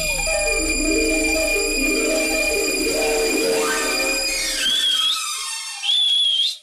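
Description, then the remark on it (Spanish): Two sharp, high whistles from a person calling someone ring out loud, each ending in a quick upward flick, coming right after a dense, droning wash of layered tones that cuts off abruptly. “Y entonces, pues, fui para adentro y lo vi y entonces le chifleo.”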